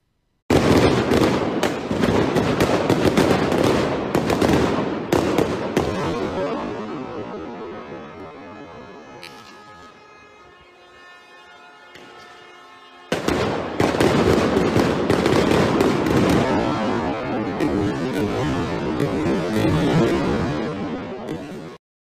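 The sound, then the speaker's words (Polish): Dense volleys of sharp, booming blasts from stun grenades thrown by police toward protesters crackle loudly and continuously, easing into a slower, drawn-out rumbling stretch before the rapid bursts of explosions resume at full intensity. “Rzeczywiście tutaj była dyskusja, czy to są, czy to jest kostka brukowa, czy to są granaty hukowe.”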